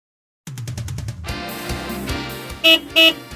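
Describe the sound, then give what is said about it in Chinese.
A car engine rumbles and revs, then a horn honks twice in quick succession, two short, loud, bright blasts standing out over the motor noise. “你看，有汽车。”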